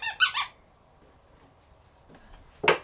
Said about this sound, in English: Santa's nose squeaks. Can you press it? Harder. Push. Harder.